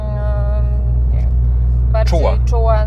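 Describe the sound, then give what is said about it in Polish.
A car's exhaust in sport mode, louder than in comfort mode, gives a steady, deep droning rumble with a throaty engine note throughout, while a person talks briefly over it toward the end. “Bardziej czuła i właśnie ten wydech jest też wtedy głośniejszy.”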